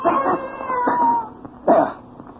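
cat yowling and hissing

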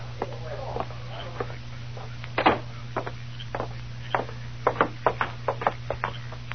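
knocking on a door

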